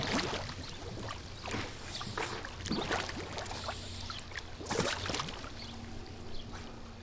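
Muffled underwater bubbling and gurgling with bursts of splashy, watery noise and occasional knocks, continuous and moderately loud throughout, with a steady low hum underneath.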